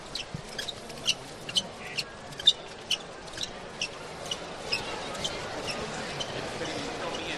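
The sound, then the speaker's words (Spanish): Shuffling footsteps of the float bearers' (costaleros') sandals as they carry the palio of Las Mercedes out of Santa Genoveva through the wooden door: a stream of soft irregular scuffs and light taps over a constant low murmur, with a few sharper steps standing out. “Esto que se escuchan son las zapatillas de los costaleros sacando el palio de las Mercedes de Santa Genoveva por la puerta de palo.”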